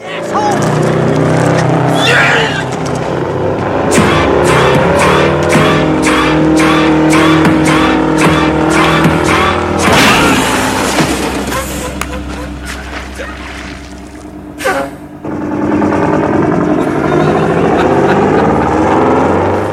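A loud truck engine in a film scene of a truck against a salesman revs and roars continuously, its droning pitch rising and falling, with harsh bursts of mechanical noise and a brief drop in volume near the end.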